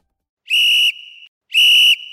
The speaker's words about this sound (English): We really grabbed your attention that time. I started working in the whistle into the end of the promo itself.